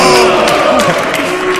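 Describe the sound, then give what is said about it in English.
A loud, dense burst of crowd applause and cheering from a large audience of LugRadio fans in a room, applauding a man's T-shirt as he stands up. Steady clapping blends into whoops and shouts and fills the whole moment. “Incidentally, for Lug Radio nutters in the room, I'd like Bruno to stand up, and everyone should give Bruno's T-shirt a round of applause, because he is actually basically French.”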